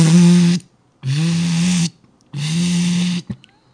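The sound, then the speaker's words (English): A voice imitates a daisy wheel printer with three buzzing, vocalized bursts, each about half a second to a second long, separated by short pauses, loud. “Yeah, that was a dot matrix printer. Maybe I was doing a daisy wheel printer.”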